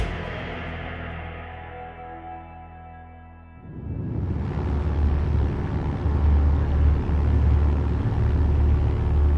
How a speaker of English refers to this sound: Now let's go back to the evening of April 29th, 1944, as a B-24 Liberator hummed across the English Channel.